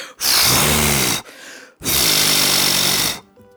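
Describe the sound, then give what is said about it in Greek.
A voice imitates the wolf from the Three Little Pigs story blowing hard to knock down a little pig's straw house: two long, loud, breathy whooshes of forceful exhaling, the second slightly longer, separated by a brief quieter gasp. “φύσηξε δυνατά και το αχυρόσπατο διαλύθηκε.”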